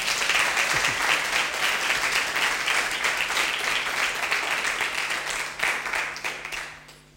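An audience applauds steadily, a dense wash of many hands clapping at an even, loud level for several seconds before it thins out and fades at the end.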